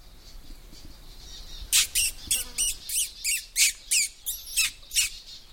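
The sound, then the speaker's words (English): Someone makes squeaky pishing noises to attract little birds in: about a dozen short, shrill squeaks in a quick, steady run, fairly loud after a quiet opening, with no talking. “It's often a good way of attracting little birds in, just a few squeaky note noises.”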